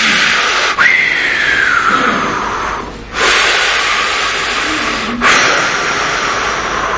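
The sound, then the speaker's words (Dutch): A loud, steady rushing whoosh like wind or forceful breathing, broken by three brief pauses that give it a slow, cyclical rhythm. No one speaks. “Dat is wind en dat is adem.”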